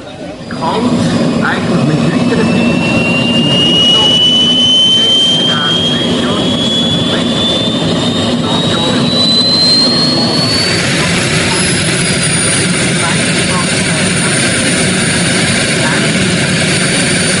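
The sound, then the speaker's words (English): A miniature turbine jet engine spools up, its high whine rising steadily in pitch over a loud, roaring rush before leveling into a sustained scream. Loud throughout. “Anyone want to guess where they make the miniature turbine engines?”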